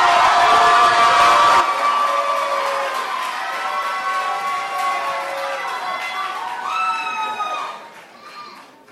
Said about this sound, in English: One more round of applause for her.